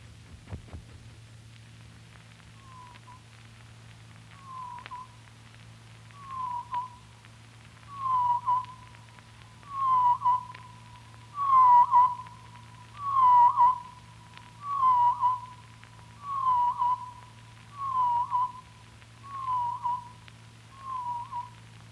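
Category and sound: bird, blackpoll warbler song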